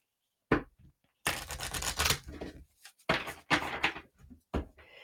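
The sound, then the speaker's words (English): A Work Your Light card deck by Rebecca Campbell being shuffled: a short tap, then several bursts of crisp, papery riffling and clattering separated by brief pauses, with no one speaking. “So let me shuffle this really quick.”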